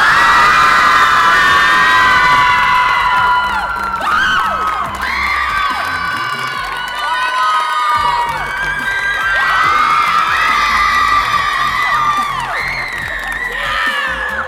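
A girls basketball team, the Mercer County Golden Eagles of Aledo, Illinois, cheers loudly and continuously, their high-pitched shouts and whoops rising and falling in waves for the whole stretch, with no clear speech breaking through.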